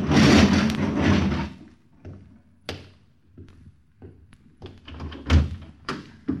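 A man hauls a garage door shut with a loud, rumbling rush that fades after a second or so, followed by a scattering of thunks and knocks spaced out over several seconds.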